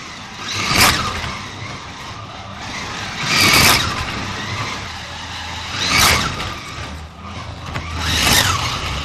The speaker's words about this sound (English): Right, now, so that was a Formula One. Now we're going to the V8 slot car sound.